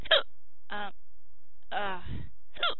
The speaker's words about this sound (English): The hiccups now. And it's too early. What time is it? 7:33. And it really gets on my nerves. At 7:33 today that I have the hiccups.